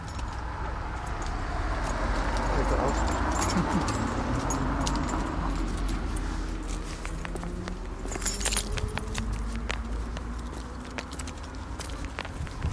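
Keys jangle and clink in short metallic bursts as a particular key is picked out to unlock a door, with a brighter flurry near the end, over shuffling footsteps and a steady low background rumble. No one speaks.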